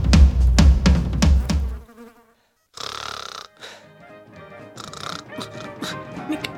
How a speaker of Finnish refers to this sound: Puhelimesta musiikkia. Noin.